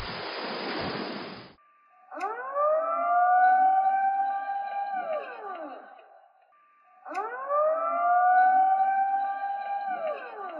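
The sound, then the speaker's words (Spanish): After a short burst of rushing noise, a civil defense tsunami warning siren on the island of Stromboli, Italy, wails loudly in two long cycles, each swelling up in pitch, holding, then sliding back down. “también entró en erupción en el 2022, produciendo un tsunami en la isla de Stromboli, Messina, Italia, con olas de hasta 1,5 metros, pero que no causó víctimas gracias a las sirenas de alarma situadas en la isla.”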